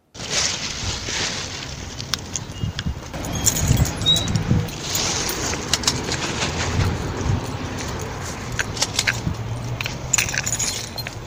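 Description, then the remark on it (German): Sharp metallic clicks of a city cleaning worker's litter picker tongs snap at irregular intervals as dirt is picked up, mixed with crinkly plastic sack rustling, over a steady outdoor background hum, on the Quadra by a playground. “Sack, Kräschel. Eine Zange, die klickt. Sie liest Dreck auf.”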